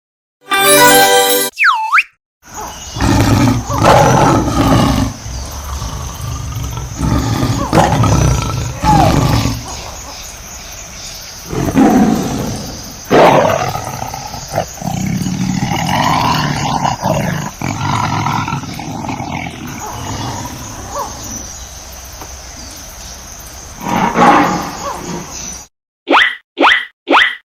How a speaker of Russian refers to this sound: Как ты думаешь, где лев? Молодец, ты справился. Это лев.